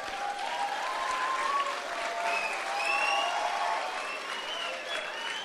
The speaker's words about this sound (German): Und das Problem wird sein, für diejenigen, die jetzt geklatscht haben, du wirst irgendwann an einer Arbeitsstelle stehen, wo du sagst, oh Mann, hätte ich mir damals bloß nicht geklatscht, sondern hätte es lieber gelernt.